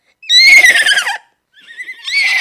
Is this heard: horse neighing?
yes